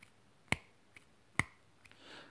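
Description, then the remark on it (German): Two crisp, snapping claps of straight fingers slapped into the palms of both hands, arms outstretched, on each exhale of a fire-breathing exercise, spaced about a second apart, with a couple of much fainter taps between them and no voices. “Und jedes Mal, wenn du jetzt ausatmest, nicht eine Faust machen mit der Hand, sondern mit langen Fingern, mit gestreckten Fingern versuchst du in die Handfläche reinzuklatschen. Das ist so ein schnappendes Geräusch.”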